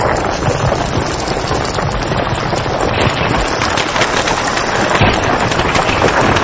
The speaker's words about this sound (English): Below the waves, the battle rages on. As the lava hits the water, it's burning at over 1,000 degrees Celsius.